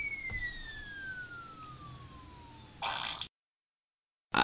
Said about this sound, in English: I didn't expect a fart noise to happen. I thought it was going to be a regular splat.